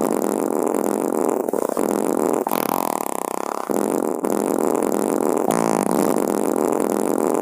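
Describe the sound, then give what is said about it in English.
A 4-second fart recording digitally stretched in audio editing into a 42-second long, loud, continuous drone with warbling, buzzy tones that shift texture every few seconds, heard alone without any talking. “But this is a 4-second fart, and I just started messing with it in editing.”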